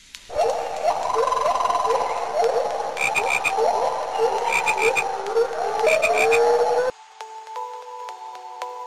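A dense chorus of frogs croaks loudly and steadily, many overlapping rhythmic calls, then cuts off abruptly near the end, leaving a few soft sustained tones.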